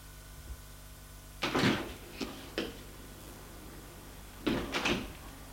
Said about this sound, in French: Elle va au fond de l'allée. Pour ouvrir la porte qui mène à la cour.